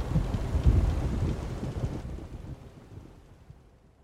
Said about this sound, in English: Storms are coming, boys. Best batten down the hatches.